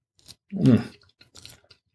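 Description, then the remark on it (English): Someone chews a bite of slightly cold pizza while tasting it paired with wine, one loud, crunchy mouthful followed by a few softer, wetter chews and smacks, with no talking over it. “I'm going to try it with the pizza first because the pizza gets – it's going to get cold fast, and it's already a little cold.”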